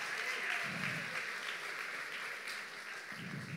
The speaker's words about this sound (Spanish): No sé si son los hombres que están aplaudiendo, pero...